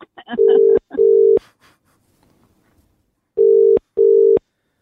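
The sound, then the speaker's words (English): An outgoing phone call ringing: two pairs of steady, fairly loud ringback tones with a long pause between them, and a brief voice murmur near the start. “Now, does it just keep ringing”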